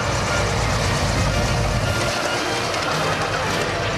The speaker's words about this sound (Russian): А, вижу. Вот в чем дело. Сюда самолет летит. О, как быстро приближается. Идет на посадку.